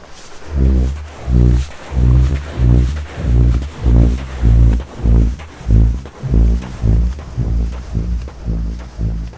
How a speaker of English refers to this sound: The first one is this burping effect, as it's described, and it's just me walking up the dune. You might even hear me panting a bit because it's quite hard work.